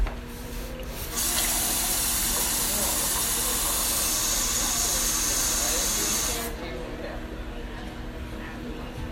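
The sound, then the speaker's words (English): Water pours into a glass in one steady, hissing stream that lasts about five seconds, fairly loud, then cuts off abruptly, leaving a low background hum. “Can I get some water?”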